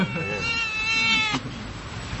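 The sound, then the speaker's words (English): A cat lets out a long, drawn-out, loud meow, rising and holding before cutting off, followed by quieter background noise; the cat is meowing insistently to be petted. “This is a cat that hasn't been petted for probably ever and now it wants its fair share.”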